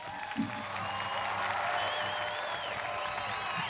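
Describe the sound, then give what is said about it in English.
Steady applause from a crowd, a dense wash of clapping that stays fairly loud and even for the full few seconds, with faint cheering mixed in. “Hold on. Let me give you some more applause.”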